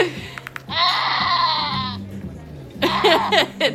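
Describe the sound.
A goat bleats loudly in a long, wavering cry, then lets out a second shorter, shakier bleat a moment later, with low voices murmuring faintly underneath.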